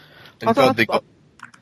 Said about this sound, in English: That typing is unbelievably loud, by the way.